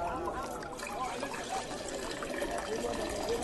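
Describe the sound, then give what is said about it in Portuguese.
Water pours steadily into six stone jars, each holding 80 to 120 litres, as servants fill them to the brim; a continuous splashing, gurgling stream at moderate volume that holds even for a few seconds without pause. “E eles encheram os potes até a boca.”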